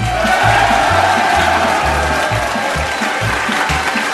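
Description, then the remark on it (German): A large outdoor crowd at the Kaiserstraßenfest street festival in St. Johann, Tyrol, cheers and applauds continuously, a loud dense wash of clapping and shouting, with a steady rhythmic low thumping, like music or stomping, pulsing underneath throughout. “Ein tolles Publikum, Sie hören es zu Hause.”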